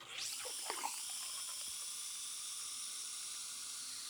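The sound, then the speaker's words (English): Nitro cold brew coffee, flushed with nitrogen, pours from a keg tap with a steady high hiss, a few bubbly gurgles near the start, then a continuous rushing stream for several seconds. “It preserves the coffee, and it gives it this unique quality when you tap the keg and pour.”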